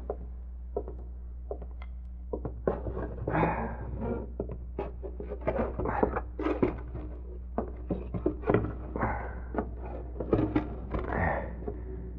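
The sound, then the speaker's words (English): Repeated wooden thunks and knocks of cupboard doors and drawers being opened and shut as someone searches a shop, irregular, with shuffling handling sounds over a steady low hum. “I'll search every inch of it to make sure.”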